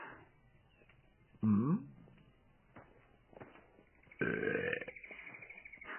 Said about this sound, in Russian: А что? Это комплимент. Отрыжка лучше изжоги, правда?